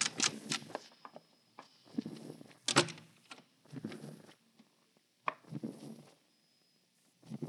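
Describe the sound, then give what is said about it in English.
An unlocked door is handled and opened, with clattering knocks and rattles in uneven bursts, then shuffling movement as the police come inside, followed by a brief quiet stretch. “Open up. The door's unlocked. Walk in.”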